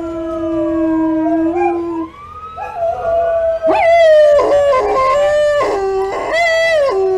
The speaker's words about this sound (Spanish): Y entonces los humanos prestaron atención y captaron el sonido que suscitaba en los perros tales muestras de rabia y temor. Un prolongado y quejumbroso aullido que subía y bajaba, de modo que ahora parecía